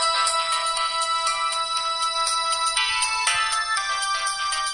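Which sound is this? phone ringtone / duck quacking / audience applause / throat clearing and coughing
phone ringtone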